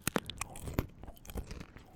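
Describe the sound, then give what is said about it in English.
Cheez-It cheese crackers being chewed: a few sharp, crackly bites at an uneven pace, separated by softer chewing noise, with no talking. “Stop fucking eating Cheez-Its.”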